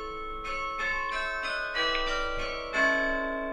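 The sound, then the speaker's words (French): Church carillon bells in Douai ring out the half-hour tune, a short melodic sequence of struck notes with long ringing overtones, clear and moderately loud with no voices. “Oui, alors ça, c'est l'air de la demi-heure. c'est un air très classique.”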